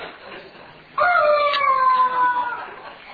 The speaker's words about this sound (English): It is a rubber chicken. But it's not just any rubber chicken. This rubber chicken can speak. Listen.